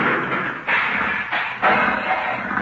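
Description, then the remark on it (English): A loud cartoon crash as Daffy Duck, flying through a low cloud, hits a chimney: a dense, noisy clatter of thuds and rubble that surges in several rough waves over about three seconds, with no voices. “Somebody put a chimney in that cloud.”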